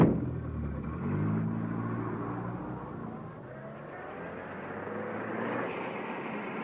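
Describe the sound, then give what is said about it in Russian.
A car engine runs and then revs, its pitch climbing as the car pulls away with its driver at the wheel and accelerates, a steady motor rumble with no voices. “Когда мы подошли к машине, водитель Егорыч по-прежнему читал. Поехали, Егорыч.”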